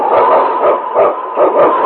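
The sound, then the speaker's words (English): King, a husky lead sled dog blazing the trail for Sergeant Preston of the Northwest Mounted Police in the Yukon, barks loudly: a rapid, steady series of sharp, excited barks with no one talking. “It's King, swiftest and strongest lead dog of the North Country, blazing the trail for Sergeant Preston of the Northwest Mounted Police in his relentless pursuit of lawbreakers.”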